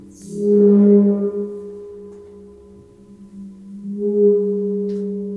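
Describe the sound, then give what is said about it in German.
A rubbed gong resonates with a sustained low hum and shimmering overtones, swelling loud, fading somewhat in the middle, then building again near the end, with no voices. “Ein geriebener Gong, wenn man reibt.”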